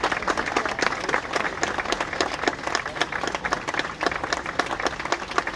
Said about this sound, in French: On suivit presque 3 minutes d'applaudissements.